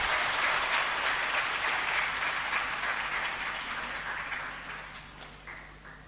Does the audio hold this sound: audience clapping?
yes